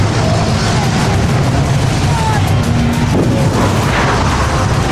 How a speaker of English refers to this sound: And then suddenly, an explosion occurs. Oh my, it bursts into flames. 400 or 500 feet into the sky.